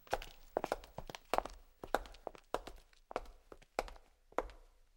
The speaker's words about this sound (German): Das Nachmachen von Schritten ist eines der Hauptgeschäfte von uns Geräuschemachern. Und wir müssen in den verschiedenen Filmen alle Arten von Schrittgeräuschen nachmachen.